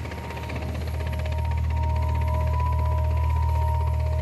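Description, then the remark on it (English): A helicopter drones with a heavy low rumble and a rapid, steady rotor chop, with a faint high whine over it. It swells slightly louder over the first seconds and then holds, with no voices. “They had a helicopter, and they had flak jackets.”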